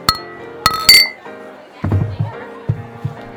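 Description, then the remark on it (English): Glasses of craft beer clink together in a toast, two or three bright, ringing taps in quick succession, followed by low, indistinct voices murmuring. “We're just drinking in it. Cheers. Cheers.”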